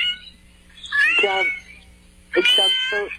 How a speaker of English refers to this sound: Is that a cat? Congratulations. It is a kitty cat. Yes, it is. It's a kitty cat.